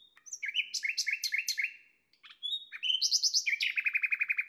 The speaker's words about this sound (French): Ce genre de crescendo flûté est vraiment typique du rossignol. Et que dire de ce chant formidable? Déjà, c'est énergique, vigoureux, puissant. Le rossignol s'entend à plus d'un kilomètre.